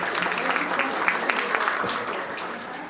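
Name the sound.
round of applause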